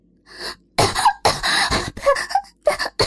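Harsh, violent coughing in a rapid run of five or six loud, raspy bursts with brief strained gasps between them, from a person covering their mouth. A fainter breathy hack comes first, and no speech is heard.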